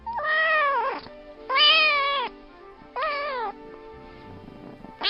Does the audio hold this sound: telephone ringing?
no